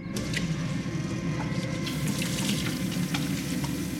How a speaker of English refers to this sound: In the daytime in the Chambers' kitchen, Raven washes her hands at the sink.